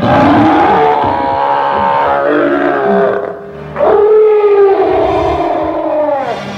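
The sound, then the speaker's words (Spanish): An angry gorilla behind a closed door roars loudly in two long, rough bellows, the second rising sharply before sliding down in pitch, with no talking. “Además, detrás de la puerta cerrada había un gorila furioso.”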